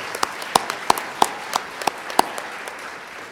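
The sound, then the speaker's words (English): Scattered applause at the USENIX FAST conference for the USENIX organizers: about ten sharp hand claps at an uneven pace over a soft background hiss, sparse rather than a full roar, with no voices. “So this is another group who really deserves a big round of applause.”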